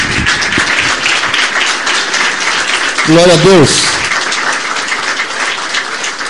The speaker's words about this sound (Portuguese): Aplauda ao Senhor aí.